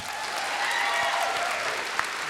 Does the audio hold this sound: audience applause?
yes